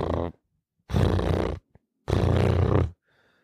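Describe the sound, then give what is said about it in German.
A person imitates a cat's purr with a low, rumbling, rattly drone in three breathy bursts, each under a second long, separated by short pauses and sounded alone without talk. “Das waren ungefähr 10 Sekunden Katzenschnurren. Ja. Für alle, die es nicht können, ich mach's gerne nochmal nach.”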